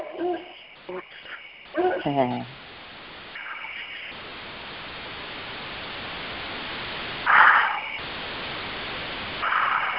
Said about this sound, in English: I'm standing outside barefoot with my feet in the dirt and on a root of a tree, and the crickets are roaring in the background and all other nighttime animals.